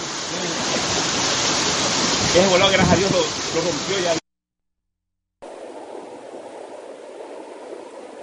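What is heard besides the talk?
river water rushing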